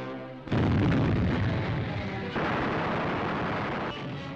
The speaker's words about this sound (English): From the ships, they swarmed down to smaller craft for the dash to shore. There's hostile fire now. The boats reply and men duck for cover.